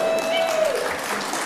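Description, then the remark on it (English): A church audience cheers and applauds, a dense, steady wash of clapping and voices filling the whole moment, with a sustained high tone sliding away partway through. “And there's a cheer after that, right?”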